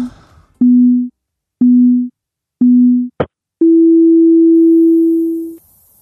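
Three short, evenly spaced low beeps, then a brief click and one longer, slightly higher beep that holds for about two seconds. The electronic tones are loud and steady, with no voices.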